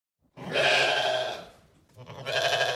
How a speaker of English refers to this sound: The 12 men and Odysseus walked into the cave. Suddenly, they heard some sheep.